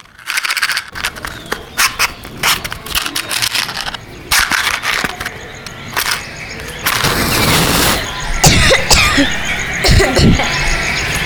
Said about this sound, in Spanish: En ese momento, Lacho agarró a la víbora del pescuezo y le echó mucho humo de tabaco en su cabeza. Como Lacho no acostumbraba a fumar, comenzó a toser.